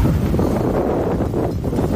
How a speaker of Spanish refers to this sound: Esto que escuchamos es el viento en Fisterra.